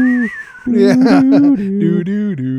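A voice imitates a spaghetti western whistle, carrying a short, drawn-out melody of sustained, wavering tones. It is fairly loud, with a brief pause near the start.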